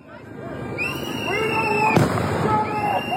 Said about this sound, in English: Started throwing what seemed like flash grenades. There were loud bangs and we ran away.